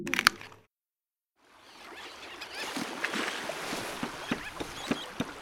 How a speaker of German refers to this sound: der portugiesische Austernzüchter, hat einen Netzsack voll mit Austern vom knietiefen sandigen Meeresboden in sein Boot gehievt. Geankert hat er an einer seiner Austernbänke, ein paar hundert Meter vor dem Ufer der kleinen Insel Culatra.